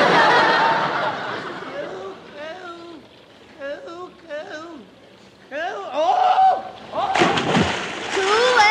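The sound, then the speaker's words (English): A loud splash as a person falls into water thought to be only 2 inches deep and is soaked to the skin, with a rush of churning water, surrounded by excited voices and snickering laughter. “I'm all wet. You little fool. I thought you said that water was only 2 inches deep.”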